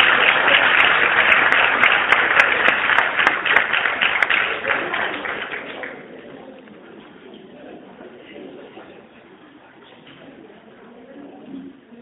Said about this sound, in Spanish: un aplauso para él.